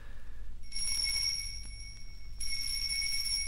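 A doorbell rings in two sustained bursts, a bright, high metallic jangle, the second burst louder than the first, over a low steady rumble with no one speaking.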